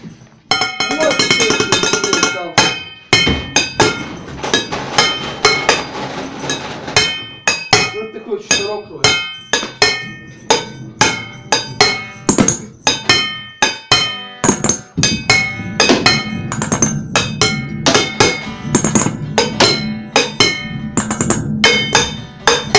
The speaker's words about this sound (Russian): Да я за ударные сяду.